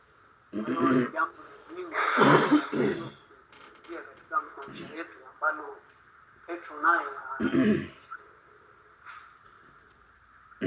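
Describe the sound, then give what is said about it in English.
Several rough coughs and throat-clearing sounds from a person who is getting a little sick come in short bursts, fairly loud, with brief voice-like noises between them over about ten seconds. “I apologize for my coughing.”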